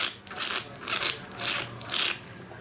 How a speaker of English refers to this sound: It's the first time I've tasted wine like that. So what you'll notice if you do slurp your wine is it hits all the different parts of your mouth. So actually things like acidity are really apparent.